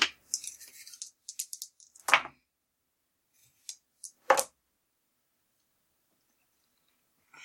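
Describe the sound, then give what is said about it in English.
Dice are rolled for an intelligence roll, coming up 7: a quick burst of small, hard clicks and rattles, then two sharper knocks a couple of seconds apart and a few faint ticks. No one speaks. “Well, no, I rolled the 7, but not”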